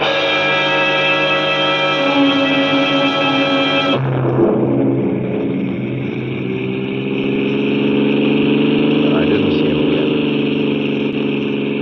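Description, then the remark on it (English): A car engine hums steadily as the vehicle drives along, its pitch dropping partway through as it slows or shifts gear, then settling into a lower, even drone. No one speaks. “I stopped a car at a sleepy little junction just across the border into Oklahoma to let a train pass by.”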